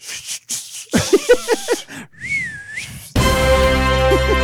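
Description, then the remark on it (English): A person whistles one sustained, wavering high note that dips and rises again, whistling for horses to bring a chariot, following a burst of clattering, voice-like sounds. A loud, dense fanfare blares right afterward. “is open that door, and then you on the count of three, you whistle for the horses to bring Joss Server on the chariot, okay?”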